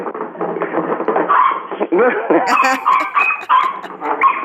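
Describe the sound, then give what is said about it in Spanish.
A dog named Perry gives a run of quick, yappy barks and yips as its owner gets it to bark, mixed with a person talking over and between them. “si usted quiere le hago un para que le escuche A el ver, ladrido nada más. hágalo ladrar.”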